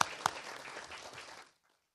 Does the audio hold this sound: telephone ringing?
no